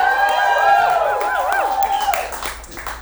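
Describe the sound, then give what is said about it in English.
An excited audience at the Seaside Meeting Hall Theater cheers loudly, with sharp whistles sliding up and down in pitch over steady clapping and crowd noise that carries on for the whole few seconds. “This seems like a good crowd tonight. You guys seem excited about that.”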